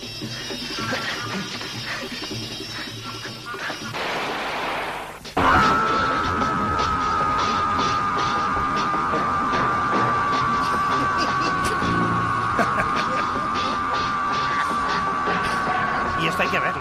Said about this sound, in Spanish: Tengo la peor muerte del cine turco y del mundo, que es el grito interminable. Es este. Sí.